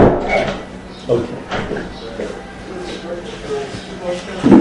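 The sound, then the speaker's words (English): A door is pushed shut indoors, with a few dull knocks and thuds from handling it, over a murmur of room noise and faint indistinct voices. “I'll just close the door.”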